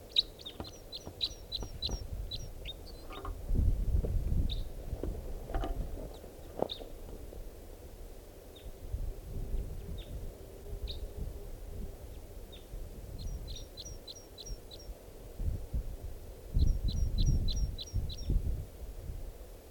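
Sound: bird singing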